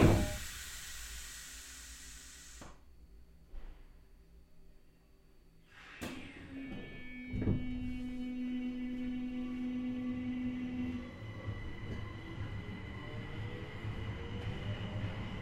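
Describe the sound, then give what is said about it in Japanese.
A train pulls out of a station: a hiss of air and a couple of heavy clunks, then a steady rumble as layered electric motor whines rise in pitch while it speeds up. “発車いたします。閉まるのはご注意です。”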